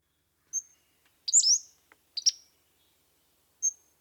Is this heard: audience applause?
no